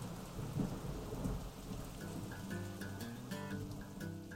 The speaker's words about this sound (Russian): Начался дождь.